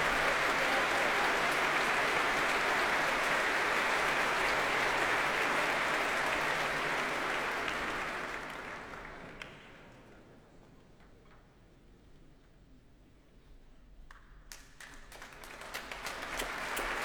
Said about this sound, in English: And applause now for the guest leader of the BBC Symphony Orchestra, Helena Wood.